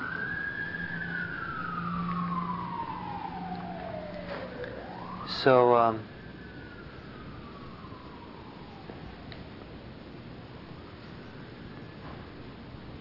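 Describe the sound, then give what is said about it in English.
An emergency siren wails steadily, its pitch sliding downward as the vehicle passes by. There's a brief louder burst midway, then the siren fades away, with a voice speaking briefly. “Like waiting until the siren goes by.”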